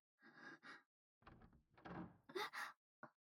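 A door at the back opens as someone enters, in a few rattling, scraping bursts over about three seconds, ending with a short sharp knock; no one speaks.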